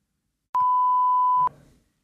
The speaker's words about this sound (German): Ja, ey, jetzt haben wir es gepiept, jetzt müssen wir eigentlich so, oh, krass.